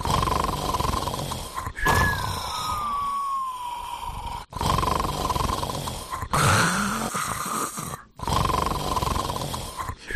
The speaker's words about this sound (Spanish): Sí, y dices bien lo de soñar, porque existe un ronquido que llaman roncar a lo moto, y si no escucha.